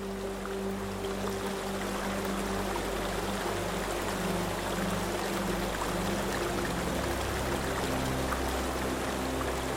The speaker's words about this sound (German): Man deutet auf eine schmale Treppe, die zum offenen Oberdeck führt, und du folgst seinem Hinweis, während das leise Plätschern des Flusses deine Schritte begleitet.